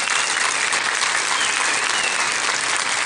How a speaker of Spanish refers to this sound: Demos un aplauso fuerte a todos ellos.